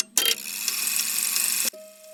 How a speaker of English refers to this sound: You hear the tolling of 11 strokes. This is to remind us that with elks, the hour of 11 has a tender significance.